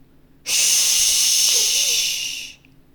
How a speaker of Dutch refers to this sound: Meteen richtte hij de spuitbus met de super slaapverwekkende thee recht op de bewaakdino.